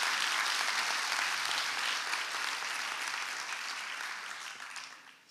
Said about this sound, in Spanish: Si tú crees eso también, deberías aplaudir a Dios por eso.